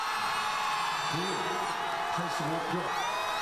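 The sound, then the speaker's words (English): A large crowd in South Korea roars in a steady, dense wash of cheering as Parliament approves the impeachment motion against President Yoon Suk-yeol, with a few louder individual shouts and whoops rising out of it now and then. “That sound of a large crowd cheering as Parliament approved the impeachment motion against South Korea's President Yoon Suk-yeol.”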